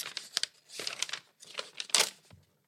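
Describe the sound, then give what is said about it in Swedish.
Scratchy tearing and crinkling of tape and packaging as a heavily taped package is opened, in several bursts of ripping with short pauses between, the loudest rip near the end. “Så hon tejpat det svinhårt också.”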